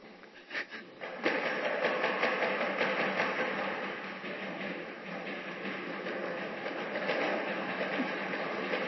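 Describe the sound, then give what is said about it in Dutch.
A loud, chaotic din of many drums and pot lids being banged at once during a 15-second noise-making exercise, a dense clattering wall of metallic hits that starts abruptly after a brief quieter moment and keeps going. “Nu leg je eerst even je trommel en je pannendeksel onder de stoel en dan ga je lekker zitten.”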